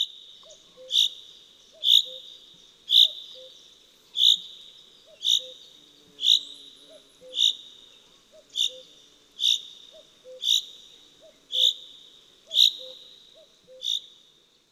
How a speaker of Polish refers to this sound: Parną, przedburzową pogodę, zięba odzywa się krótkimi, wibrującymi dźwiękami zwiastującymi nadejście deszczu.